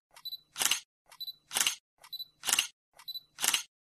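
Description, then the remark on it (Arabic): Four camera shutter clicks at a steady pace, about one per second, each a quick two-part mechanical snap, as someone takes photos with a borrowed camera, with quiet gaps between them and no voices. “طيب خدي كاميرتي اهي وأنا معاك، هظبطها لك وانت تصوري على طول.”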